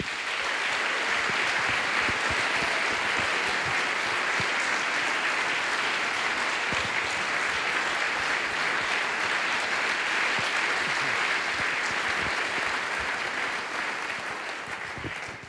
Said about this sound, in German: Für Sie, liebes Publikum. Das ist euer Applaus.